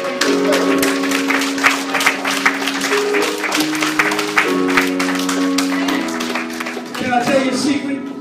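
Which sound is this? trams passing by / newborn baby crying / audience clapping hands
audience clapping hands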